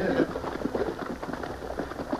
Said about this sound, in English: His sharp ears had caught the sound of horses approaching the shallow water below him.